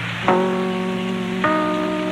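NBC broadcast chimes played at the end of programs, real chimes struck with a mallet: two mellow chime notes struck one after another, each ringing on with a steady, sustained tone that slowly fades, the second at a different pitch from the first, with no voices.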